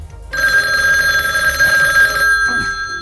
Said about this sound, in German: Einige Tage später klingelte in der Zentrale der drei Detektive das Telefon.